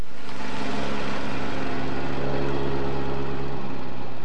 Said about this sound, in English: The sound of heavy machinery and the sight of bright orange flaggers directing traffic has been the norm in Petersburg for most of the summer.